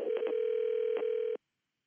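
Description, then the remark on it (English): A steady, low telephone tone hums for just over a second as a call is placed to the Stone Trust, a group in Vermont, with a few short key presses cutting in before it stops abruptly. No voices. “So we called them up.”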